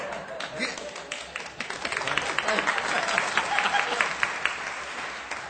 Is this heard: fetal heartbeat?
no